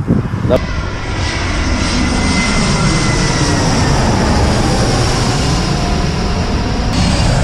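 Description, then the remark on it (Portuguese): A large airplane roars overhead near an airport, by a beach on the ocean, its loud, steady engine rumble filling the whole recording with broad low-frequency noise and a faint whine, holding strong from start to finish. “Então depois a gente vai pegar o carro, a gente vai do outro lado, que é perto da água, perto do oceano, lá que tem uma praia, que a gente vai poder ter um avião grande vindo.”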